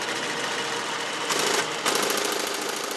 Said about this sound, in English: You're hearing the IBM 1401. It was a computer system about the size of a two-car garage. On a recent afternoon at the Computer History Museum in Mountain View, California, a few old-timers got it up and running to demonstrate what it could do.